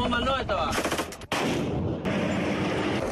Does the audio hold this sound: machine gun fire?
yes